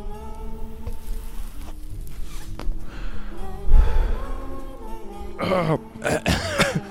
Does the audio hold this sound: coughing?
yes